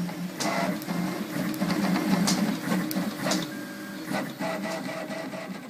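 A 3D printer runs steadily, its motors whirring and buzzing in a busy mechanical drone, with brief clicks and short rising tones from the moving print head. No voices.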